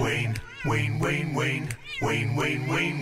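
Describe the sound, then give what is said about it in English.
A kitten that was stuck in a garbage disposal in Wayne, Pennsylvania, meows insistently and loudly, letting out about six high, wavering cries in quick succession with only brief pauses between them. “Sergeant Brian Hughes got his hands dirty to save the cat, took apart the garbage disposal, and then using some coconut oil was able to free the kitten.”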